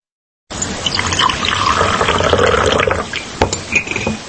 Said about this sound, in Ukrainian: власник невеликого гостьового дому в Коклузі, селі багато ущелина в Бахчисарайських горах, наливає у філіжанки запашну каву, зварену у джезві на джерельній воді.